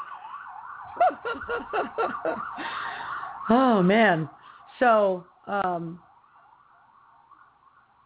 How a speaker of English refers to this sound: So a lot of sirens today.